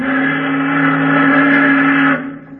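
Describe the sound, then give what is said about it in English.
A tramp steamer, a freighter, blows its steam whistle: one long, loud, steady blast, a deep chord that holds for about two seconds before cutting off and fading, with no voices. “What's a tramp whistling for, Daddy?”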